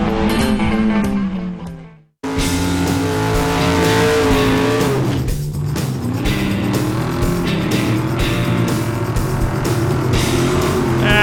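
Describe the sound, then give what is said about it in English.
A loud Camaro race car engine, driven by a woman, revs hard, its pitch climbing and dropping through gear changes, with one brief cutout near the start. No one speaks. “We got a lady that goes straight more times than not in the baddest Camaro you ever seen.”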